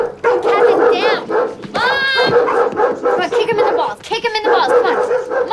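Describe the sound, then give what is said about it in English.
Two Doberman dogs in an open-plan living room bark and whimper loudly without pause as they run up and pin a man into a corner, high excited whines rising and falling between sharp barks, their voices overlapping in a frantic, continuous clamor. “Once inside the homely open plan living room, two Doberman dogs run up and pin”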